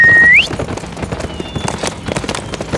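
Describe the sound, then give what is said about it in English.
A gelding's hooves loping along in a quick, uneven rolling rhythm of dull thuds, steady, after a brief high rising tone at the very start; the horse is ridden after other horses. “Frank put his rifle into the saddle boot, then holding Claiborne's weapon, swung up onto the gelding's back and sent it loping after the horses carrying his two companions.”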